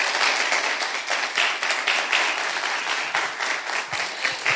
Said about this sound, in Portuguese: Obrigado, pode sentar. Uma salva de palmas para eles também. Tremendo, obrigado, querido.